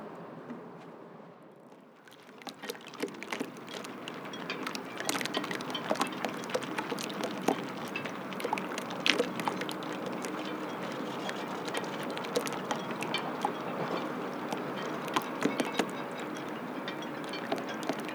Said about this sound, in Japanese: そよ風でヨットに当たる波とポールに当たるロープが心地よいリズムを奏でています。